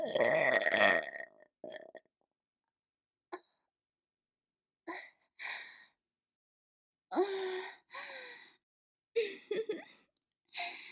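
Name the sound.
loud burp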